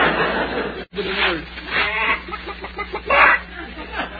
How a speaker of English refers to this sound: They didn't steal our chicken after all.